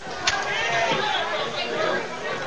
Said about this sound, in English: Big crowd here at Warsaw High School tonight. Good crowd.